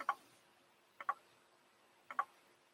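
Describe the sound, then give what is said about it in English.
A camera's autofocus ticks mechanically, picked up by the microphone: three crisp double clicks spaced about a second apart, fairly loud against a quiet background with no voices. “That is not a clock. That is our autofocus, which is quite noisy.”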